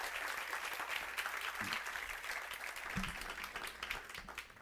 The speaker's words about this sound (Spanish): Entonces quiero recibir a mi esposa con un fuerte aplauso, que va a estar contando en el día de hoy su testimonio.